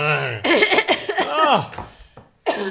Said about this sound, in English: that massive great cough you did into the air without covering your mouth in front of me and Ben